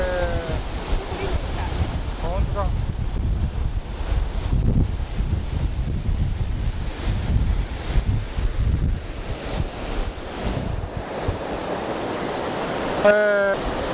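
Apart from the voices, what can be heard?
rushing river water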